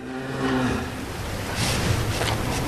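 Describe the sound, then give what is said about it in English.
A low, droning moo from a Normandy dairy cow that grazes on green grass and gives creamy milk for cheese rises out of steady outdoor noise. It holds for about half a second, then gives way to a rougher, breathy rustle. Nobody speaks. “These cows eat a lot of green Normandy grass and produce a lot of creamy milk that goes to make cheese that's admired the world over.”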